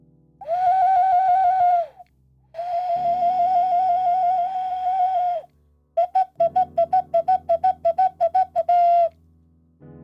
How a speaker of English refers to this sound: Here's the ocarina, little Spanish clay whistle.